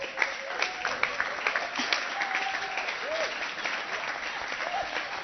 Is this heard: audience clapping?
yes